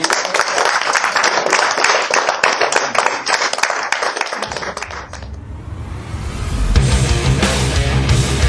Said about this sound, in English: Thanks for listening. Fantastic. Give another clap,